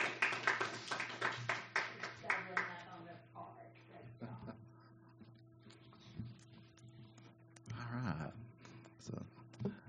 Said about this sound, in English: And give these kids a hand clap. They did good.